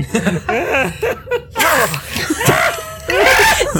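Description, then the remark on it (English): A loud voice imitates a screaming jacket, screaming in several shrill, wavering bursts over about four seconds, with breathy, laugh-like sounds in between. “So Jayla's wearing a screaming jacket.”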